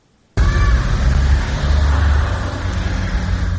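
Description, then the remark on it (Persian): After a brief near-silence, steady road traffic noise swells in abruptly as the official cars of high-ranking Tajik government officials leave their compound in the First Sovetsky district of Dushanbe in the early morning, a low rumbling of engines and tires that stays loud and continuous. “ماشین های خدمتی منصبداران سطح بالای حکومت تاجیکستان است که صبح بر وقت از قرارگاه خود از محله یکم سویتسکی شهر دوشنبه خارج می شوند.”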